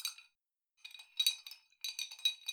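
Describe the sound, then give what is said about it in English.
A glass stirring rod clinks and scrapes inside a beaker as a sample substance dissolves, in a few quick bursts of bright, high-pitched tinkling, separated by brief pauses, with no voices. “Can you hand me that stirring rod?”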